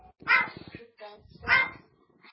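A dog barks twice, close and loud, the two harsh barks about a second apart with quieter rumbling between them.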